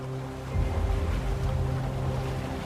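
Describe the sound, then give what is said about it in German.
The sails of a catamaran, being set outside an atoll, flap and rattle in the wind, a rough, irregular fluttering over a steady low rumble of the boat and water, growing louder after the first half second. “Mit einem Knattern entfalten sie sich und wehen im Wind.”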